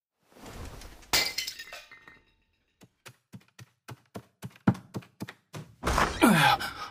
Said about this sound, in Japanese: ああ、花瓶が落ちて。